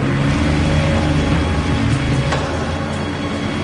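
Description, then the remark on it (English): Engines run steadily during a supply run up the Mackenzie Valley, with a loud, continuous drone, a deep layered hum and a broad roar on top, holding an even level for the whole stretch with no voices. “Get used to the normal running sound of the engines, and you can tell when one of them is not quite up to snuff.”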